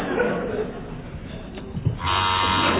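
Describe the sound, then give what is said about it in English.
A loud quiz buzzer, pressed by a contestant in a team quiz, cuts in partway through and holds a steady, harsh electronic drone until the end, after a stretch of muffled background noise. “Okay, so the teams are now level pegging. Fingers on buzzers, please.”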